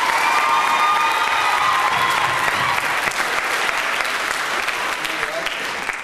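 A crowd claps loudly and steadily for about six seconds, a dense wash of applause with scattered cheers and a few high whistles, tapering slightly near the end.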